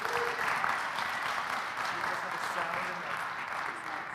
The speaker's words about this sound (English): Please be seated. Thank you, worship team. Guys, give them a round of applause and thank them.